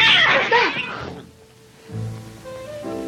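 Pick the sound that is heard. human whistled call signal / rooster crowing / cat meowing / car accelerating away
cat meowing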